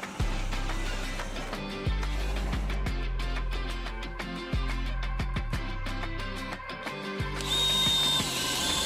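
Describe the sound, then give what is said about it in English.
A power drill runs loud, whining steadily as it bores a hole while an outlet is being wired, with the motor pitch dipping and surging in several bursts before easing off near the end. “The dog's nose just stuck through the hole where I was drilling.”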